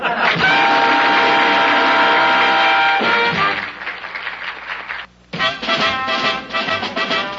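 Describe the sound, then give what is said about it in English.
A helicopter engine whirs loudly with a steady, buzzing mechanical drone. Its tone shifts partway through, cuts out for a moment, then roars back at full strength. “It's his chopper.”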